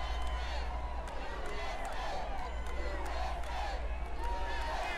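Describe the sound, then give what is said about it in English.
A large outdoor crowd chants "USA, USA, USA" and cheers in a steady, rhythmic swell, voices blending into a continuous roar with occasional claps, amid constant low rumble. “Shouts of USA, USA, USA coming from the crowd.”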